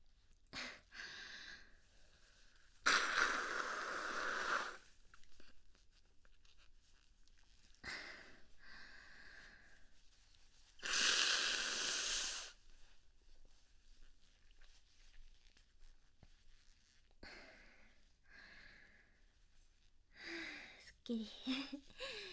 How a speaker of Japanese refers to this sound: そのせいでただでさえちょっと鼻水が出やすい感じなんですかね。そのおかげかすごいくしゃみ出るの今日早いです。めっちゃいいペースです。ちょっと鼻をかみます。